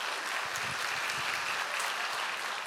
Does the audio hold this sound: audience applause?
yes